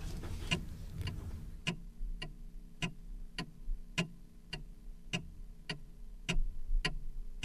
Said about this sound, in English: Sorry, I was going to play a CD, but it's gone to sleep. We'll play the ticking clock again.